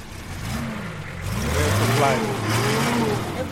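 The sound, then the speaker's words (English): A vehicle engine runs in a car park while a huge trailer is prepared to drive into the bush, its low rumble rising and easing as it revs a little, steady and fairly loud over faint outdoor background noise. “Out in the car park, Baraka is preparing a huge trailer to drive to the middle of the bush and cook for 13 people.”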